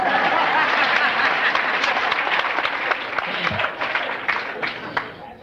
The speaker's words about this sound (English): Now you clap.